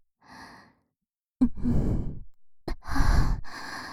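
Breath blown into the ear: a faint exhale, then two long, loud, airy breaths with a rough, hissing texture, heavy and sigh-like, with no talking.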